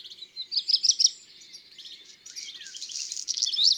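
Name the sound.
black redstart song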